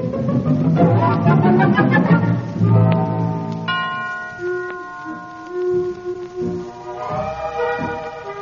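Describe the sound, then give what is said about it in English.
A theatre curtain signal rings out as a series of resonant bell-like chimes, their tones overlapping and lingering with no one speaking. “There's the signal for first curtain.”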